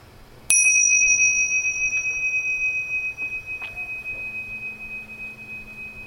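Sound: bell ringing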